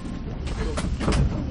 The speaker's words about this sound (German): Zug fährt ab.